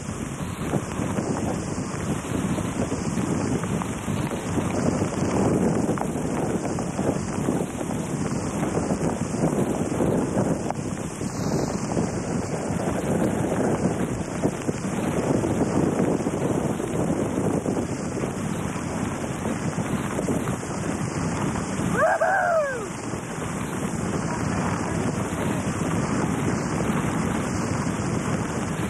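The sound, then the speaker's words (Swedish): Strong hurricane wind roars continuously while storm-surge waves from the ocean crash and churn along a coast in the Miami area, a loud, unbroken wall of noise with gusts buffeting the microphone and a brief higher-pitched whine near the end. “Giving you a little idea of the surge along the coast.”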